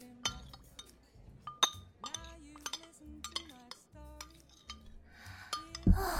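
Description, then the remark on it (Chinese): Glasses clink together several times in a toast, bright, ringing taps scattered irregularly, with soft voices and clattering tableware in the background. “难得回来一次，这次一定要喝个痛快。干杯喽，弟弟。”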